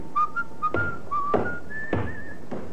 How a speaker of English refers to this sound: It's the check you've been waiting for, that fellow there, whistling.